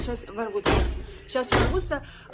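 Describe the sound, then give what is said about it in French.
Two heavy, booming blows strike a door about a second apart, loud, with a raised voice heard in between, as police force open a woman's door. “Ça y est, la police force ma porte, mais je n'ai pas peur, je ne vais pas abandonner.”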